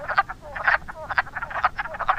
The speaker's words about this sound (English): Several frogs calling, or this. A whole chorus of them.